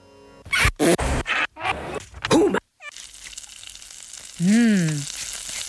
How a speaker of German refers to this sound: Zum Beispiel so ein Kochgeräusch, brutzeln.